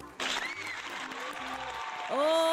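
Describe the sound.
Audience applause breaks out after a brief quiet start and keeps going as a dense, steady wash of clapping, with voices and some tonal sounds mixed in and a louder surge toward the end.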